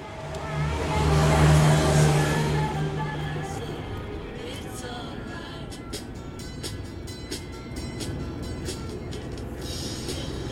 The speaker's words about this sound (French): La rame entre en gare.